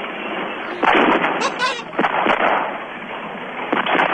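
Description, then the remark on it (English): Several sharp firework bangs pop at irregular intervals over a steady crackling hiss, loud, with a dense burst of crackles in between. “Fireworks.”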